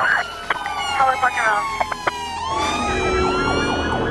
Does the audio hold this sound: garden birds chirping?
no